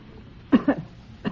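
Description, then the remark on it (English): A woman, asked to show how she coughs, gives a quick burst of two or three short coughs, pauses briefly, then adds one more single cough, moderately loud, with no talking. “I would like to hear you cough.”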